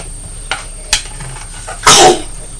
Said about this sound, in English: Dear, are you sneezing? I don't think it's my nose. A tissue?